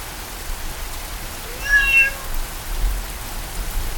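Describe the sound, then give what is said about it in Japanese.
A single short cat meow rises briefly midway through, over a steady hiss of a heavy downpour on a road that continues throughout. “雨が降る中出会った猫は、人の形をしていました。”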